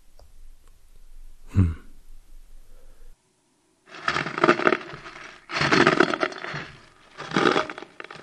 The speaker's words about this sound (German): Haben Sie das auch gerade gehört? Doch, da knirscht was. An der Tür. Ich sehe mal nach.